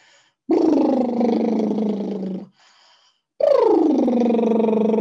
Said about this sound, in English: And just inviting you to do a little bit of vibration with your lips.